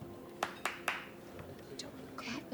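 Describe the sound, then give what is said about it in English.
Three sharp, crisp hand claps land in quick, even succession over a low murmur of background chatter, followed by quieter clatter and voices. “You do two claps. Two claps will work.”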